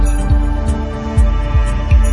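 Dull, low heartbeat thumps pulse at an uneven pace over a steady droning hum, sounding muffled, with no voices.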